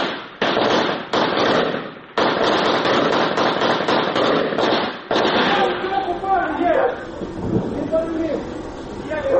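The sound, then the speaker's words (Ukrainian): Loud, rapid bursts of gunfire as soldiers shoot at a Russian FPV drone that flew in very close to the netting, cracking in uneven volleys for several seconds, broken by brief pauses, before the shooting thins out and raised voices shout over scattered shots. “Намагаються відстрілюватися. Але дрон в небі.”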